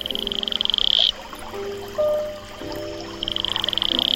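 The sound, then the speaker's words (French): The call of an Atelopus franciscus toad, a smooth-skinned toad about 2.5 cm long from the equatorial forest of French Guiana: two bursts of rapid, high-pitched pulsed trilling, one at the start and one at the end, with steady lower tonal notes sounding in between. No one speaks. “Le crapaud Atelopus franciscus a la peau lisse”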